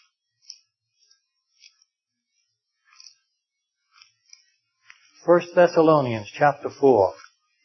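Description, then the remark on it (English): Pages of an old, worn Bible being turned to 1 Thessalonians chapter 4: soft, brief papery rustles and light clicks come every second or so in near-quiet, then a man starts talking over the last stretch. “If your Bible's like mine, it's old and worn and takes some time to get the pages turned.”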